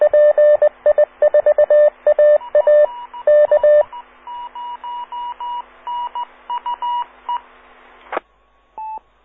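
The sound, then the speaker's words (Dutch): An amateur radio call sign signal: a rapid, stuttering run of electronic dial-like tone bursts gives way to a steadier string of beeps over faint radio hiss, then a sharp click and one short final tone. “Dat is mijn eigen call eventjes.”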